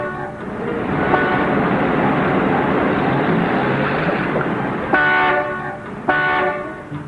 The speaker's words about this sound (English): Will you stop honking, Mac? We ain't going nowhere. This is Agony Alley. Morning rush and evening wait.